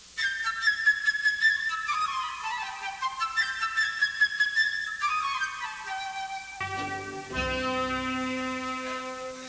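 A flute plays the bird's theme from Peter and the Wolf, a bright, high, quick melody full of trills and fluttering runs, then fuller, lower sustained orchestral chords enter near the end. No one speaks.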